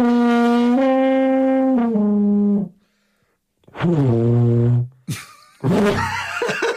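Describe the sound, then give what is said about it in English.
A voice imitates a distressed elephant: long, loud, buzzing horn-like notes that step downward in pitch, a brief silence, another bending groan, then a harsh, ragged trumpeting blast. “Right, a deeply stressed out elephant.”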